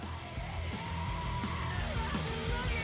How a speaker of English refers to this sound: We got screaming right off the bat.